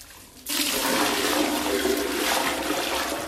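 A sudden loud rush of used bathwater, poured from a bucket, goes into a toilet bowl in Harare, Zimbabwe, where the city water supply has not worked for a month; it starts abruptly after a short quiet moment and gushes steadily until the end, with no voices.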